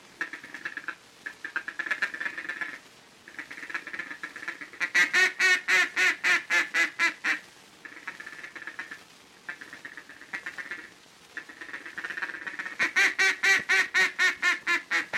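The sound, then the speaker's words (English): A mallard feeding chuckle blown on a duck call, made with the tongue as the word 'ticket' is blown softly and very rapidly: soft, rapid ticking chatter in several runs, with two louder bursts of crisp, evenly spaced clucks, clear with no talking. “It is made with the help of the tongue as you blow the words ticket, ticket, ticket, ticket, ticket, softly and very rapidly like this.”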